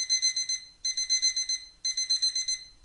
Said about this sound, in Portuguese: O tempo do despertador tocar foi o suficiente para me fazer esquecer o que eu estava sonhando.